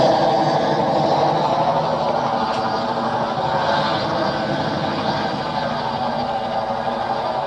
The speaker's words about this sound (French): L'hélicoptère est arrivé à Lyon, s'est déposé sur les quais de Rhône.